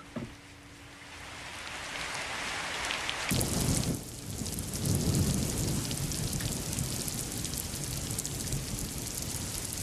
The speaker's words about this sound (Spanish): Llover y llover y llover. Abriré la ventana. La voy a abrir para que comprueben lo que les estoy diciendo. Voy a abrir la ventana y van a ver como si está lloviendo aquí en el Cerro del Rebote.